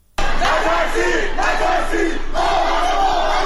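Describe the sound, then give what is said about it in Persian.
A large crowd gathered in residential compounds in Qom on a Wednesday evening chants the slogan "Don't be afraid, don't be afraid, we are all together" in unison, voices rising and falling in steady rhythmic phrases, loud and continuous with a dense roar of many shouting people. “در شهر قم هم شامگاه چهارشنبه افراد متعددی در محوطه‌های مسکونی شهر تجمع کرده و شعار نترسید نترسید ما همه با هم هستیم سر می‌دهند.”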